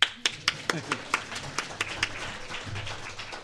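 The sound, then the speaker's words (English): A brief, scattered round of clapping from a small audience, invited after praise for the schools they operate: sharp, uneven claps that start strong and thin out, with a low murmur of voices underneath. “Go ahead, you could clap.”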